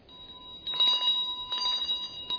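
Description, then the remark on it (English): A big bell rings in front of the microphone, a steady high-pitched ringing tone that swells into louder, rattling bursts partway through, with no one speaking. “It's ringing in front of the mic.”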